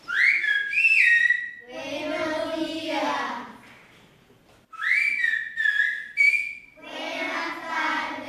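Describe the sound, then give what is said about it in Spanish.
Silbo gomero, a whistled form of Spanish from La Gomera in the Canary Islands, at a school on the island where children learn it: two loud whistled phrases with gliding, rising-and-falling pitch, each followed by a stretch of voiced, speech-like sound. “El silbo es algo así como el español, pero silbado, y tiene la ventaja de que se puede escuchar hasta por 3 kilómetros de distancia.”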